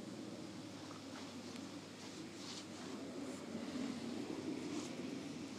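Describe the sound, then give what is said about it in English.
A steady outdoor breeze blows with a soft, continuous rush and low rumble, gently swelling slightly toward the end. No voices are heard. “This fresh breeze.”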